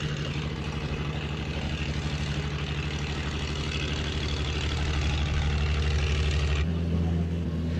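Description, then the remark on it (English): Heavy machinery drones steadily with a low, throbbing engine rumble and harmonic hum, shifting pitch slightly near the end, as the cranes of the Veli Jože work, slowly lifting one side of a wrecked 80-ton floating crane during a Yugoslav salvage operation in a harbor. “You can hear now the cranes of the Veli Jože working in the background.”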